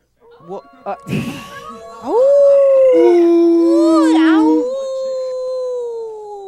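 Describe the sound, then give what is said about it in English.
A few short yips and a rough burst give way to a long, loud wolf howl that rises, holds and wavers with sliding pitch before trailing off, clear with no talking. “The wolf. All right. The wolf. The wolf.”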